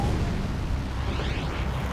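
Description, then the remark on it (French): Five bomb explosions shake Manhattan, New York, just after midnight on 26 October 1974: a loud, deep explosive rumble rolls on for a couple of seconds, heavy low-end booming with a crackling roar and no voices. “Cinq explosions secouèrent Manhattan.”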